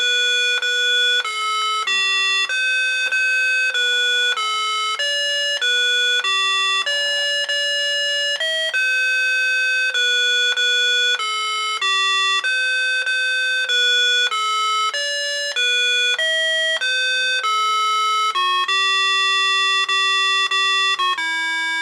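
A loud electronic beeper chip plays a continuous stepwise melody of sustained square-wave tones, steady, the GDR national anthem rendered note by note in full and then starting over, with no voices.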